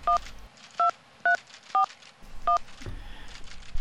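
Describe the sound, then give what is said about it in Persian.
Five short, evenly spaced electronic keypad beeps as a phone number is dialed, each a crisp dual-tone blip, clear against a faint background hum. “باش که تلفن کنم.”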